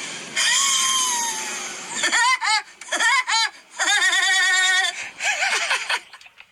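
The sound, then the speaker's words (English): Britney Spears imitates Woody Woodpecker's laugh in a short video: a long, high, strained note, then loud bursts of rapid, bouncing staccato cackles that rise and fall in pitch, with brief gaps between. “This is my impression of a Woody Woodpecker.”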